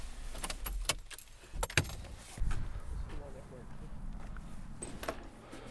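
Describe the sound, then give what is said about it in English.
Several sharp metallic clicks and rattles of a seatbelt being unbuckled inside a car that has just arrived at Bread and Butter Farm, scattered irregularly over a low, steady cabin rumble, fairly loud. “Let's get out of the car now. Let me unbuckle you.”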